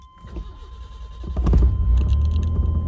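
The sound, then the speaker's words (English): An old, high-mileage truck engine is started with an ignition key; it cranks briefly, then catches with a burst and settles into a loud, steady rumbling idle. “And she cranks every time.”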